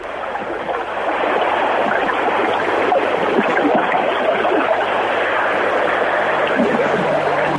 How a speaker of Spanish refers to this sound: Es un sitio mágico que hay en Barreiros, en San Cosme de Barreiros. Se trata de San Esteban do Ermo. De hecho, estoy ahora aquí, incluso se puede oír el ruido del agua.